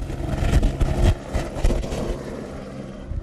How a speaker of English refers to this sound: She waits for us passengers to hop out with our gear. We crouch down on the ice as the noise and rotor wash beats down on us from above. A thumbs up to the pilot, and she takes the helicopter up like a rocket.